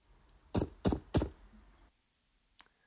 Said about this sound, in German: Das war geklopft.